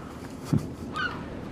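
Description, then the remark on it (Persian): A small kingfisher gives a brief, faint call with a short chirp near the end, set against a soft background hiss. No one speaks. “مرغ ماهی خاره کوچولوی رو تن من که جز تک تخته ای ازم باقی نمونده بود نشسته بود و هی فراشو تکون میداد و هر از گاهی آوازی میخوند.”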